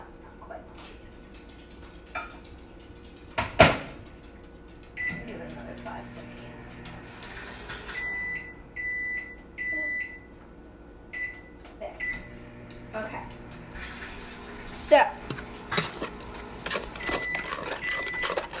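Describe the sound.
A microwave oven hums steadily while running for 15 seconds to melt something, then gives a series of short, high-pitched beeps in quick bursts, with clattering handling noises and a voice talking at times.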